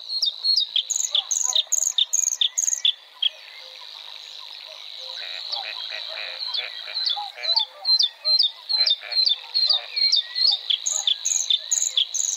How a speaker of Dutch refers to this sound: In de rietvelden weer klinken tijdens de lente en de zomer het onmiskenbare gekwaak van de groene kikker. En men hoort er het gezang van de blauwborst.